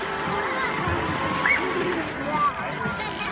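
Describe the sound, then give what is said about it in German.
Water splashes and sloshes repeatedly as dolphins in a show leap out of a pool and dive back in head first, beneath a steady wash of audience noise, with a couple of brief high whistles rising above it. “Die Delfine springen synchron und abwechselnd hochkant aus dem Becken und kopfüber wieder zurück.”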